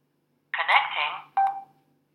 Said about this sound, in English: Okay, and you heard it say connecting and a beep. And that's what it does when it comes back in range or when you turn the unit on from being off.